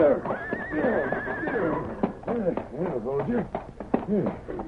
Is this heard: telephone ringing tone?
no